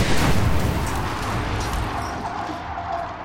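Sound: gas explosion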